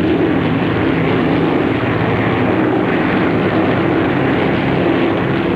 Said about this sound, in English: As the bomber continues across the countryside, the plane passes over more flat wetlands. The ruptured duck flies a few feet over the water, then scatters a flock of birds on the glassy surface.